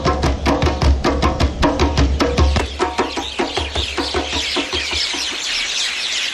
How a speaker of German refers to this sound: Ein Baum voller bunter Vögel, die sich offenbar eine ganze Menge zu erzählen haben.